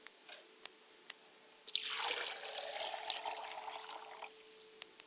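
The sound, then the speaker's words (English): Water is poured onto the ground as a libation in a steady, hissing splash lasting a few seconds, with a few sharp, isolated drips before and after the pour. No one speaks. “And I always remember to pour water to the ground so that it will be fertile, and wherever it hits the ground, it will take up root”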